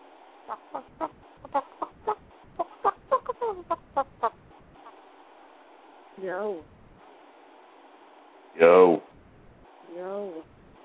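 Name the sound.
person imitating chicken clucking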